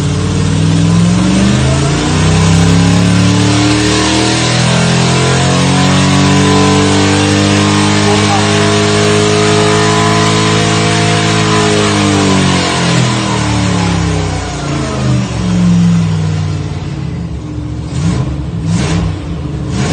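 A loud 4-litre V8 race car engine, built and tuned to championship regulations for the BC V8 championships, revs up and down, its harmonics sweeping upward then falling over several seconds, alone, ending with a few sharp bursts.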